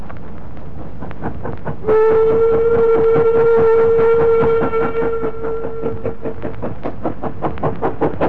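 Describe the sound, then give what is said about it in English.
A steam goods train chuffs slowly and steadily up an incline on its run from Nottingham to Chesterfield, its regular puffs continuing throughout while a long, sustained whistle sounds for several seconds near the start. “A goods train was puffing slowly up an incline on its run from Nottingham to Chesterfield.”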